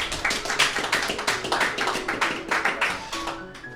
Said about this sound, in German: Applaus.